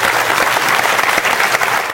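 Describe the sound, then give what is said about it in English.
A steady wash of audience applause, many hands clapping densely and loudly for about two seconds, tapering slightly at the end with no voices over it. “Let's give them a warm applause.”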